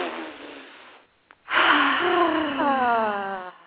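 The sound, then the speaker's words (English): A drawn-out sniff lasting about a second, a brief pause with a tiny click, then a loud breathy exhale that turns into a voiced, sighing gasp. “All right, one last sniff.”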